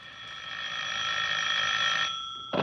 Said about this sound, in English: As I came up the stairs, I heard my phone ringing.